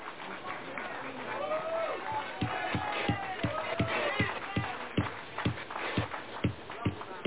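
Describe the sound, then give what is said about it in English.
An audience at a hearing chaired by Chair Jordan claps and murmurs steadily after a testimony, with a few sharper, evenly spaced beats standing out in the second half against the crowd noise and scattered voices. “The audience should refrain from applause.”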